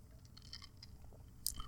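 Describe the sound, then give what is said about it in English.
A sip from a canned margarita drink mixed with a shot of tequila, with soft wet mouth noises and a short slurp, ending in a brief sharper burst over a low background rumble. No one speaks. “Little canned margarita mix, a little shot of tequila. One sip, everybody knows the rules.”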